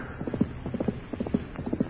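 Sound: horse hooves clip-clopping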